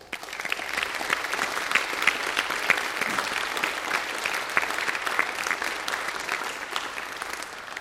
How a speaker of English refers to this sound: If you have been the benefactor of love and support and hard work of others so that you can be here today, let's take a moment to thank them with our applause.